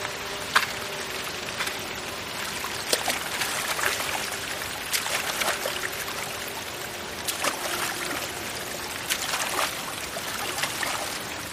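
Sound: splashing water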